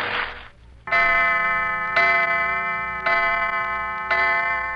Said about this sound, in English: Clock.